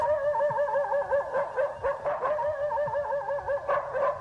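Livestock guard dogs, a Caucasian Shepherd, a Turkish Kangal and a Tornjak, give a steady run of high, wavering whines and yips that rise and fall continuously for several seconds, with no talking over them.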